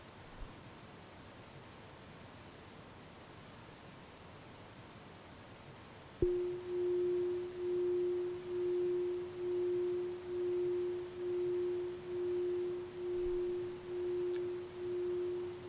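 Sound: meditation bell ringing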